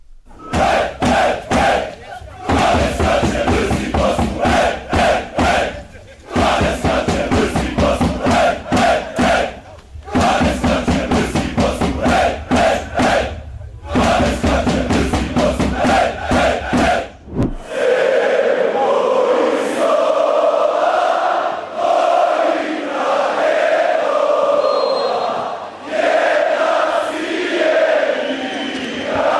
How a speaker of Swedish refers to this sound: Hundratals meter nedanför fötterna hade BH Fanaticos matchsamling nere på Rossiotorget, och de sjöng så att det hördes över hustaken, förbi fåglarna, ända upp till Lissabons allra högsta punkt.